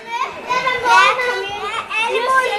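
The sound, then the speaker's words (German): Children shout and chatter loudly over one another, high excited voices rising and falling in a continuous lively din of play, with no pauses, in the children's section of a public library where laughing and clattering are allowed. “Laut geht es zu, es darf gelacht und gescheppert werden.”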